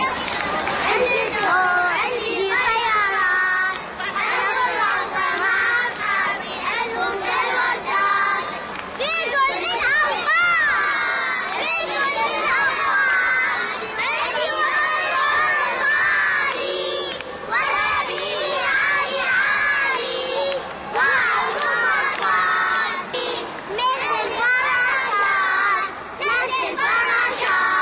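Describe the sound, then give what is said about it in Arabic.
A crowd of kindergarten children in the city of Amarah, Maysan, chanting and shouting together while competing at an annual kindergarten festival, loud, their high voices rising in continuous overlapping bursts with cheering throughout. “بهذا الصوت البريء صدحت حناجر براعم رياض الأطفال في مدينة العمارة وهم يتنافسون بمهرجان سنوي أقامه قسم النشاط الرياضي والكشفي في المديرية العامة لتربية ميسان.”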